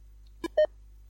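Two short electronic beeps from an audio player's keypad as the square key is pressed to start playback: a brief click-like tone followed by a louder, steady mid-pitched beep, then quiet hum.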